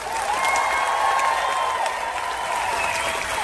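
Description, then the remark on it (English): A large crowd at a Change the Date protest rally in Sydney roars and cheers continuously, a dense wall of voices and applause-like noise, loud and sustained with no single voice standing out. “A large crowd has gathered in Sydney.”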